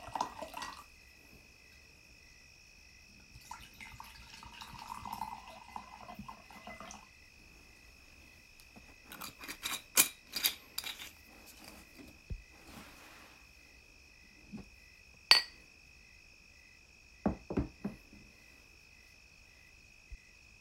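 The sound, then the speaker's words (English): Whiskey pours with a soft, rising gurgle into a glass, followed by a few sharp clinks and taps, all over a steady, high-pitched chorus of crickets. “Now let's pour some whiskey, swing on the porch, and just unwind.”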